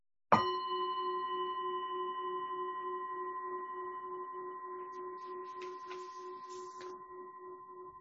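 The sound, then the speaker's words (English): A single meditation bell is struck once to begin a 25-minute meditation, ringing out with a clear, pure tone whose overtones hum steadily and fade very slowly over several seconds in an otherwise quiet space. “I'll begin the meditation with one bell and end after 25 minutes with three.”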